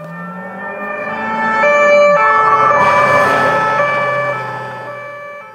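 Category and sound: signal or alarm, siren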